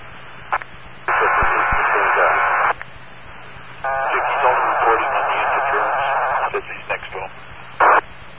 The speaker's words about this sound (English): Okay, so that interference is very close to you and you're getting a strong signal. It's also showing up on my map, if you know what that means. So this person is not very well hidden, so to speak.